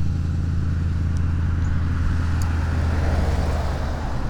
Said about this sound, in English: All right, let's cross the street. Well, not yet. Cars are coming. Safety first.